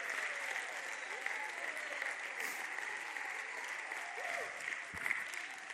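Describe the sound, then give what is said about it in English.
A church audience claps continuously, a dense, sustained wash of applause at steady volume, with faint voices mixed underneath. “Oh, clap your hands and thank God you're a part of something that's powerful, that's real.”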